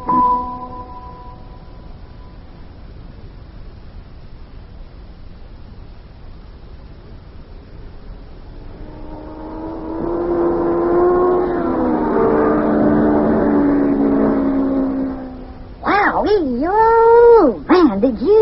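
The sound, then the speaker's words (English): A race car's engine roars in with a loud, buzzing whine during time trials at the racetrack for the Indianapolis Classic, holds for about five seconds, then drops away as it speeds past. A brief wavering squeal follows at the end. “That car was really traveling all right.”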